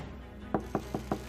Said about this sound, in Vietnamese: Có tiếng gõ cửa ở bên ngoài, ông Vương liền nói: A Mẫn, cậu vào đi.